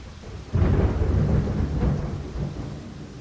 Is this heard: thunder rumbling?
yes